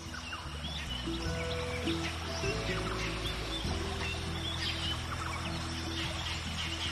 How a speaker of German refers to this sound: Über deinem Kopf hörst du das wohlige Krächzen eines Papageis. Woher mag es nur kommen? Du erhebst deinen Blick und siehst ein Araspaar, das dich ganz neugierig anblickt.